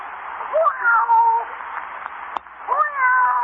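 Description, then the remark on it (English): A cat, Sweet Alice, meows twice, a drawn-out plaintive meow followed after a short pause by a second one, with a soft click in between. “Here, kitty, kitty, kitty. Come on, jump up.”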